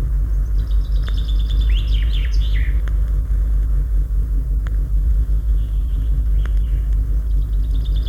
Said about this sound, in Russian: Это поет зяблик. Без его громкой песни не обходится ни одна роща, ни один парк. Песни зяблика можно услышать даже в большом городе.